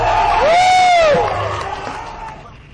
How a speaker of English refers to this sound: All that cheering was, I had to bend down and tie my shoe, and everyone was so amazed that I could do it that they all began cheering in unison.